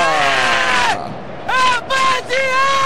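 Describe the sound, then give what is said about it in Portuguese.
A football crowd at the Nilton Santos stadium (Engenhão) in Brazil, during a 2017 Brasileirão match, screams and cheers loudly after Curitiba takes the lead, in several sustained bursts, high shouted voices rising and falling in pitch over a dense wash of stadium noise, with a brief dip between outbursts. “E a galera grita, ele que tá dando onda pra torcida do Curitiba, no Paraná, em todo o Brasil.”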